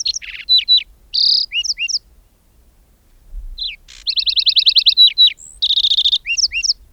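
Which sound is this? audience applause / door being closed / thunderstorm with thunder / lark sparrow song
lark sparrow song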